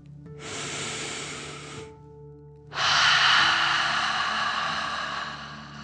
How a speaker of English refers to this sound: Breathe in through your nose, filling up your belly, and then out through your mouth, pretending you are breathing fire. Ready? Deep breath in and out.